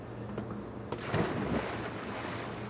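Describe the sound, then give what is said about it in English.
A diver in diving gear, carrying a hacksaw, splashes into a river about a second in, set against a steady low boat engine hum and the wash of moving water outdoors. “He dives almost immediately into the river in his diving gear, armed with a hacksaw.”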